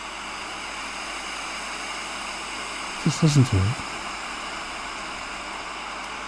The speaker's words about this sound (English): or just like you're listening now, the steady hum of wind.